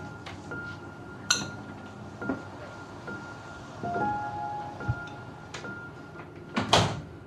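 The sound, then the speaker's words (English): A back door leading out to the garden is opened with a click and a few rattling knocks, followed by a brief squeak, and then pulled shut with a fuller thump near the end. “does as she asks and steps out of the back door to join her parents in the garden.”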